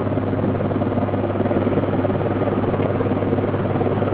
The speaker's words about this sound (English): British Army helicopters hovered in the sky over the Ormo Bridge as frantic efforts were made to find a last-minute solution.